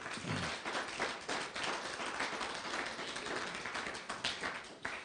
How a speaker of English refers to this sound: If God's been good to you, won't you give him a hand clap of praise?